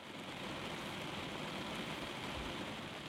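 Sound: rain falling outside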